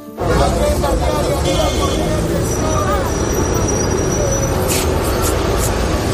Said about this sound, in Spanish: Niños saliendo de clase, otros jugando en el parque, coches, autobuses, mayores paseando, algunos sentados en el banco a pasar la tarde, gente que hace recados.